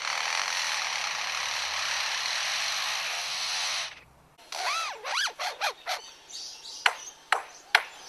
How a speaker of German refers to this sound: Und welchen Sinn ergibt der Klingelton aus der Amselkehle nun oder der Akkuschrauber-Sound bei dem Leierschwanz?